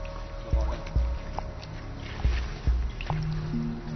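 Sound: water dripping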